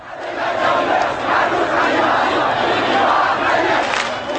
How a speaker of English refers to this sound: Many in the crowd chanted slogans to decry President Ahmadinejad.